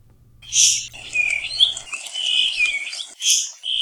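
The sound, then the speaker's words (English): A puaiohi, a small, critically endangered thrush found only on Kauai, sings a bright, continuous song of high whistled and buzzy phrases, clear, with a faint low hum underneath at the start. “University of Hawaii at Hilo Professor Patrick Hart introduces us to a rare Kauai songbird, a thrush called the puaiohi.”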